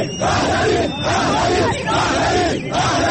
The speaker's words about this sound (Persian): در این میان برخی از حاضران شعارهای علیه دیگران دادند. گروه دیگری هم در ستایش پادشاهان پیشین ایران که سال روز تولدشان مصادف با ایام برگزاری این گرد همایی است شعار سر دادند.